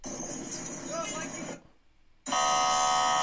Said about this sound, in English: I hear a horn honk. I see the U.S. troops seemingly in their completely functioning vehicle drive right around them.